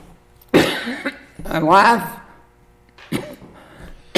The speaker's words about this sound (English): A life without coughing. Yeah. Wouldn't that be nice? I think when I get to heaven, I won't cough.